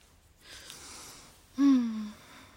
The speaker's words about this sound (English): Ooh, that was a big yawn. You tired? You sleepy? Yeah? Does my baby need some sleep right now? You wanna take a little nap?